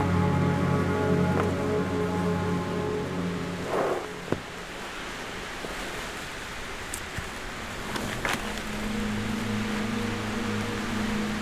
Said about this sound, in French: Là, je vous amène juste au bord du ruisseau.